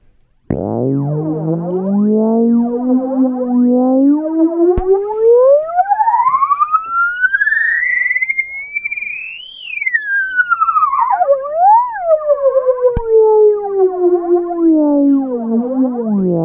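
A siren sound run through a flanger, its tone gliding slowly upward to a high peak and sweeping back down with a whooshing, swirling shimmer. It's loud and steady, with no voices.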